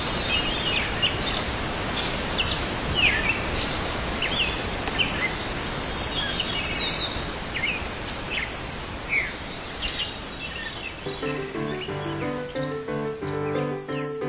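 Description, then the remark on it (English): Several birds sing and chirp in quick, high-pitched bursts over a steady hiss of background noise; near the end, sustained musical tones start up beneath the birdsong. “They see whatever the inner time is, and each morning, rain or shine, they sing.”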